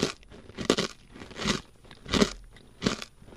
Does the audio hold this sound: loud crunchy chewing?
yes